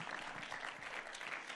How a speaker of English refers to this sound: Yeah, you want to applaud for them? Yeah, go for it. That's a good thing. They work hard.